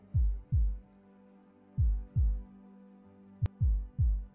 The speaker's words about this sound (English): Oh my. You have a beautiful heartbeat. No murmurs at all.